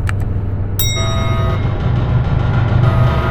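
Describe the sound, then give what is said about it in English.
Mechanical clicks, then a sharp clunk followed by a rising electronic whine with ringing tones, all over a steady deep rumble, as spacecraft fuel mixers are primed. Loud, with no voices. “Priming fuel mixers?”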